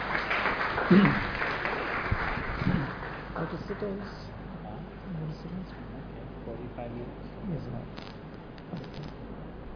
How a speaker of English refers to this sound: So I'd like to welcome amongst ourselves, and please welcome His Holiness Devamrita Swami with a big round of applause.